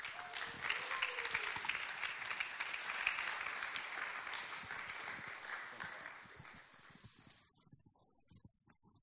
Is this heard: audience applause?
yes